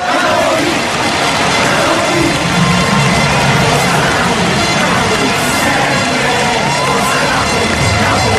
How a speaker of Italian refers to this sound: Lo sento da lontano, il grido della gente.